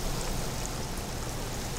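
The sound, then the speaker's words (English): Food sizzles in a big deep fryer, cooking until golden brown and crunchy: a steady, dense hiss of bubbling oil with a fine crackle running through it, even and unbroken for the whole moment with no one talking. “Get them sizzling.”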